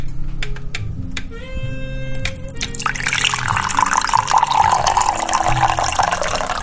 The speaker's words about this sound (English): How about a glass of water? Pour it. Oh.